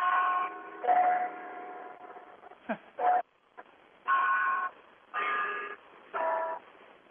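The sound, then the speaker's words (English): The carillon bells of Ottawa's Peace Tower on Parliament Hill chime a slow series of ringing, sustained tones, about six or seven notes. Each tone holds steady before stopping, with short gaps between them and no talking. “For our audience, that is Ottawa's Peace Tower that's chiming away.”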